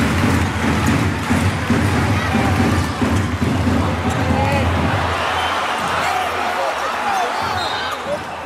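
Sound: arena crowd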